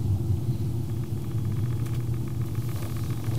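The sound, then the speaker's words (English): Steady low engine rumble inside a car driving home through slow traffic in Midtown, Omaha, a continuous deep drone with faint road noise and light rattling above it, no voices. “I've got a short ride home now”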